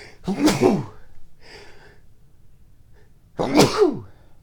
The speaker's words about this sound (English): I do need to sneeze, though.